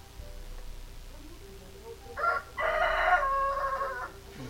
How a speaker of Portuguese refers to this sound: Os galos, eles vêm aqui pentelhar toda vez, mano.